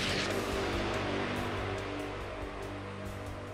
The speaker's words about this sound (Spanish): La explosión golpeó la pared de la torre con una fuerza masiva, destruyendo todo a su alrededor.